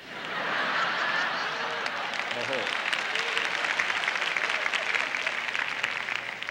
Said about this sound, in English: Only half of you were clapping. And I know which half.